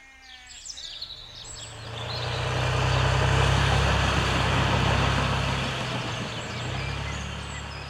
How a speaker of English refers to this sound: Mowing my meadow with a Lamborghini tractor.